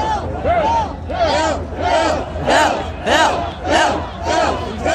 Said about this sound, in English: Anyway, first off, if there's anybody who's ever attended that rabble, can I hear that rabble again? This was 3 o'clock in the morning.